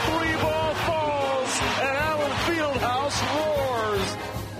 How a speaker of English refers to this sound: The Johnny Furphy buzzer beater. The crowd roars.